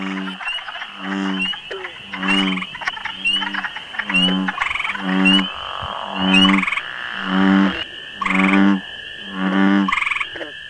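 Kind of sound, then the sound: animal, frog croaking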